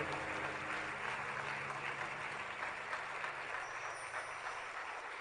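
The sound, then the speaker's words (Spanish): An audience claps steadily as applause to the Lord for his word, a dense wash of many hands applauding together at a fairly loud, even level for several seconds, with no voices standing out. “Un aplauso al Señor por su palabra.”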